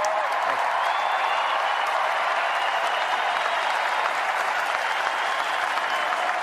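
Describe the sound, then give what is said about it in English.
A large crowd at the Republican National Convention applauds and cheers steadily, a dense, sustained roar of clapping mixed with shouts that stays loud and even throughout, with no one speaking over it. “And I have to say, as a Republican, it is so nice to hear you cheering for what I just said.”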